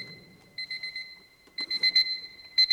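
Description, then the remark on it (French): An alarm clock rings in rapid, rattling bursts with a steady high tone between them. It is shut inside a metal box during a sound experiment and sounds muffled and somewhat faint; no one speaks. “Cette fois, la sonnerie du réveil, bien qu'affaiblie, reste nettement perceptible.”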